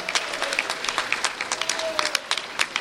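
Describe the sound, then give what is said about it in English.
An audience applauds students for their leadership of protests, steady dense overlapping claps at moderate loudness for a few seconds, with faint voices mixed in underneath. “Those are some of the most inspiring protests of the year, and they're here, and I hope they would stand up and say, get a little applause for their amazing leadership, because it's been fantastic, the work the students have done.”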